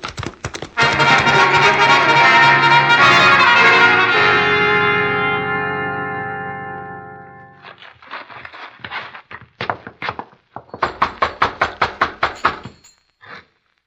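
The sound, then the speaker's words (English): A loud musical swell fades out, followed by a few scattered thuds and then a quick, even run of about nine sharp knocks on a door at the place with Wade Benson's name on the gate. No one speaks. “Nobody answers, Hoppy. You figure this is the right place? Yeah. Wade Benson's name is on the gate. Knock again.”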